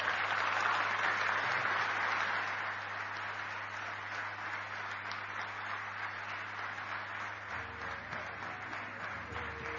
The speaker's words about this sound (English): Brothers and sisters, this is Sri M.C. Mehta's first time in Prashanti Nilayam. Let's give him a very warm round of applause.